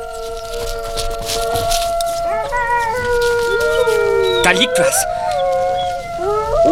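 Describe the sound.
Several long, wavering wolf howls overlap in sustained rising and falling tones, played back on a cassette recorder that sounds them at regular intervals, always from the same spot, echoing off the walls, while a person briefly speaks over them.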